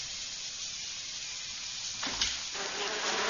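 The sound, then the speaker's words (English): A steady, thin buzz of a big bluebottle fly hums over a hissy background, swelling briefly with a short rough burst partway through before settling back into the droning whine. No one speaks. “I had the fly swatter poised.”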